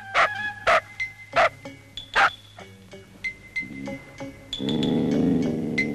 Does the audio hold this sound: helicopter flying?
no